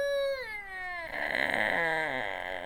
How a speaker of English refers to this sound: Hear the front door start to creak open.